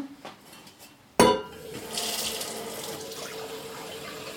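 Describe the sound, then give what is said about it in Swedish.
A metal pot clanks sharply, then a tap runs steadily as water pours into it, filling a saucepan with one litre of water for cooking, a continuous rushing sound with faint rattles of the pot, no talking. “Och så tar vi och fyller på vatten. Tar en standard kastrull eller gryta, en mindre gryta, en stor kastrull.”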